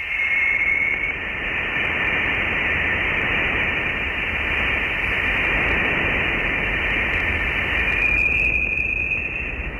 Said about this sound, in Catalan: I la Voyager també es veu que han registrat les interferències que es produeixen amb les partícules que formen l'espai interestel·lar. Sonen així.